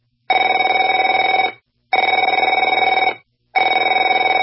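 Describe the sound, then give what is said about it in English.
A telephone rings in three loud, evenly spaced bursts, each a buzzy, rattling bell tone lasting over a second with short silences between. No one speaks. “Afraid to answer it?”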